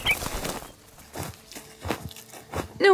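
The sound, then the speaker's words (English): A small bird chirps, then its wings beat in a run of soft, rhythmic flutters, fairly quiet, before another bright chirp at the end. “Go, little bird. Hurry.”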